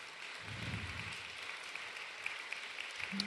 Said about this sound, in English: Let's give him a round of applause for sharing that tonight.